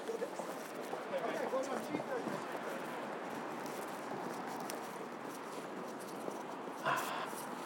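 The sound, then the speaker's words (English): A dog whimpers and scrabbles, running on the spot, claws scraping and pattering in quick, uneven bursts against a steady background rustle, with faint voices mixed in. “You're not getting anywhere, Joe. You're running on the spot. Silly dog.”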